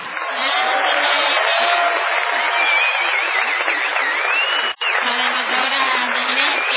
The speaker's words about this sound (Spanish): Igualmente inexplicable será la ovación tributada a Gillespie.